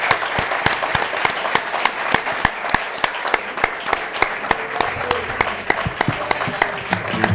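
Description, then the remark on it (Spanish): An audience applauds steadily for four departing participants, many hands clapping in a dense, sustained patter with some sharper individual claps standing out, holding a fairly even loudness throughout without speech. “Un aplauso para ellos.”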